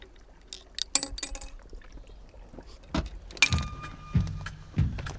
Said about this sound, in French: Allez, je vais mettre quelques pièces aussi.